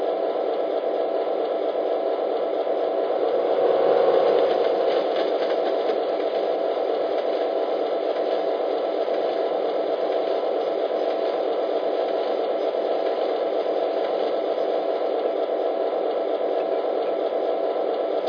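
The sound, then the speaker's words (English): A passenger train rolls past in a steady, dense mechanical roar with rattling and whirring undertones, swelling slightly early on, then holding an even, unbroken rumble throughout. No voices are heard. “Hey, look, here comes that passenger train now.”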